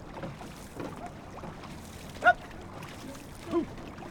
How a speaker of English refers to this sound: As the sun rises over Tempe Town Lake, two outrigger canoe teams, Naleo Oke Kai and Team Arizona, have already hit the water.